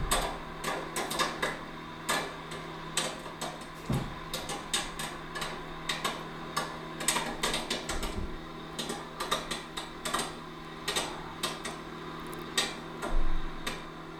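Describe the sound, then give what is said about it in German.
A microwave hums steadily while popcorn pops inside, a rapid, irregular scatter of sharp cracks that comes in bursts. Moderately quiet, with no voices. “Ach, Popcorn!”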